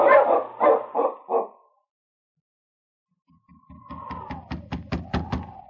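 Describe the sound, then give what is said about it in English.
Husky sled dogs, being urged on, bark in a short burst of four quick, loud barks, then after a pause break into a rapid, excited run of yips and barks over a whining tone. “On King! On, your huskies!”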